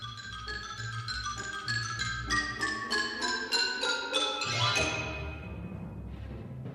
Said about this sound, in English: The snare drum and the Chinese block. The xylophone.